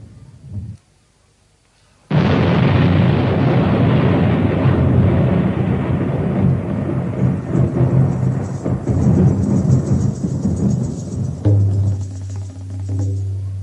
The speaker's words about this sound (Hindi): तो ऐसे संवर्तक बादलों को अभी अभी ऑर्डर दिए, ए जाओ ब्रज में जाओ, खूब वर्षा करो। तो मुसलधार वर्षा शुरू हुई,